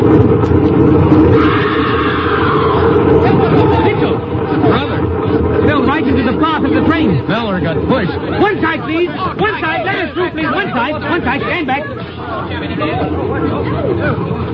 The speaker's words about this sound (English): Hey, look, that crowd over on the platform.